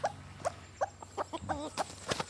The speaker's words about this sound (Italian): C'è un bel pollaio con un gallo che insidia una gallina.